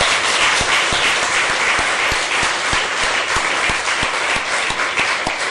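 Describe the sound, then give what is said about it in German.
A crowd breaks into sustained, loud applause to welcome the priests taking part, a dense wash of many hands clapping steadily for several seconds, with a few sharper individual claps standing out in an even rhythm. “Wir wollen allen Priestern, die hier sind und mitmachen, einen Applaus schenken zur Begrüßung.”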